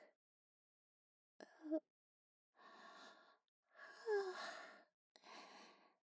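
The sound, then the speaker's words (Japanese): A man yawns with a short catch of breath followed by several long, breathy exhalations. One carries a low, drawn-out voiced groan that slides downward. There is no speech. “おじさんあくびしてる。”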